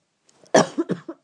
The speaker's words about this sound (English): Sorry. I've got a cough.